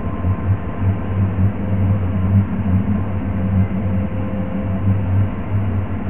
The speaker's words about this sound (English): A few years back, people living on the southern and western ends of Windsor were plagued by a mysterious hum with vibrations so intense they could rattle windows.